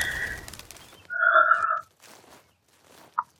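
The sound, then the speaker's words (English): A small bird lets out one loud, drawn-out call, then soft rustling follows as it flies away, ending with a brief sharp chirp. No one speaks. “Little bird, go. Hurry. He's coming back. Please fly away to the castle.”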